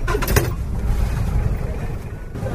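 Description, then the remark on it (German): A taxi rolls slowly along a road with many potholes toward Namuongo in East Africa, a steady low engine rumble with a few brief bumps and rattles early on, with no one talking. “Es geht nur langsam voran. Die Straße hat eine Menge Schlaglöcher.”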